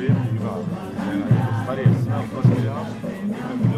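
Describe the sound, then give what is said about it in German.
A crowd gathered on a street not far from the train station in Avignon, around a group of people in colorful traditional Andean dress. Many overlapping voices chatter in a steady, moderately loud murmur, no single speaker standing out. “Das Publikum versammelt sich um eine Gruppe von sehr bunt gekleideten Menschen im Stil der traditionellen Tracht der Andenvölker Lateinamerikas.”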